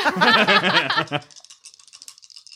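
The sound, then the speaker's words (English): A voice sounds for about a second, then dice rattle in a quick, dry clatter of fast, irregular high clicks that is fainter than the voice and trails on alone. “Those dice sound exactly like when I watch a horror film and my teeth chatter.”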